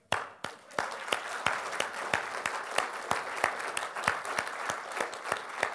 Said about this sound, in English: For those of you that are veterans, could you please stand and be recognized that we could clap for you? Please stand and be recognized if you're a veteran.